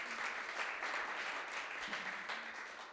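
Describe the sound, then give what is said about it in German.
An audience at a church service, the first in four weeks, applauds together to thank God, a steady wash of many hands clapping that stays fairly even in loudness for the whole stretch, with no voices standing out. “Können wir mal kurz Applaus geben?”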